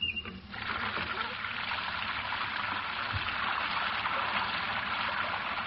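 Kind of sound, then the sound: nature, rain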